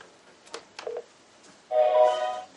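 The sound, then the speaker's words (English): A few soft clicks of the blue button being pressed on a phone to reach voicemail, then a bright, steady electronic phone chime rings out clearly for nearly a second before fading. No one speaks. “Yeah, so why don't you go ahead and push the blue button, wait for that little chime, and then say voicemail.”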